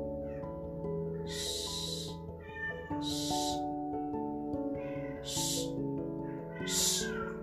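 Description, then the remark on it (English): A cat meows repeatedly in long, drawn-out, tonal cries, fairly loud, with several insistent calls following one another over a steady background of sustained tones. “Can you stop meowing, please?”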